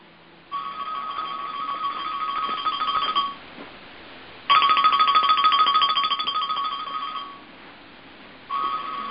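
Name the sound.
phone ringtone ringing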